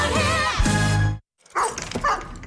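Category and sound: animal, dog barking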